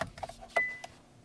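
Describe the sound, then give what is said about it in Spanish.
An electric car powering on: a few short electronic chime tones, then a steady higher beep that holds briefly and fades, with no engine rumble and no talking. “Es el ruido que hace mi coche al arrancar.”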